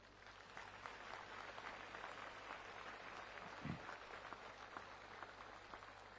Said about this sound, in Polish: Wszystkim służbom medycznej, porządkowej, liturgicznej, kwatermistrzowskiej, no jakiekolwiek służby istnieją na pielgrzymkach, niech będą teraz oklaskane i odziękowane.